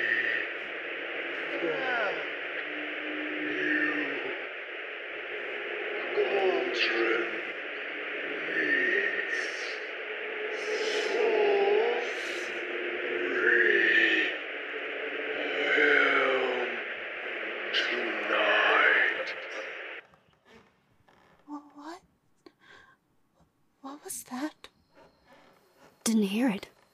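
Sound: radio static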